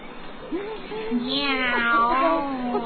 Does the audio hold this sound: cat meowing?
yes